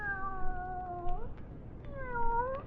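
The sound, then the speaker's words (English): A cat meows twice, each call a drawn-out, wavering tone with a short pause between them, clear over a low background hiss. “Here, kitty, kitty, kitty, kitty, kitty.”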